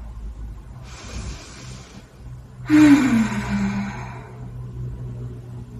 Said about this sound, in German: Genau, lass uns gut mal zusammen ein bisschen atmen.